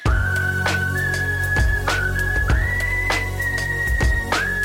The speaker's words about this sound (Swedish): Du har hört den förut så du visslar med mig.